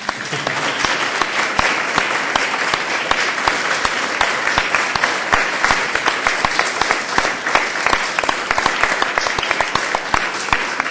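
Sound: audience applause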